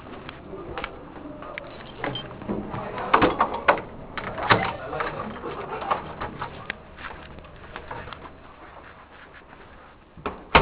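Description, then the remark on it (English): Outdoor ambience with pigeons cooing and scattered small knocks and rustles, ending in a sudden loud thud as a door is pulled shut. “I gotta deal with this door right here because I can't quite hear you with the noise out here.”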